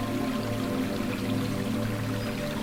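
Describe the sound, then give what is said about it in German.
A bubbling spring beside a small pond in front of a hut runs steadily, a continuous, even gurgle and hiss of flowing water with a faint low hum beneath it and no voices. “Vor der Hütte befindet sich ein kleiner Teich und eine sprudelnde Quelle.”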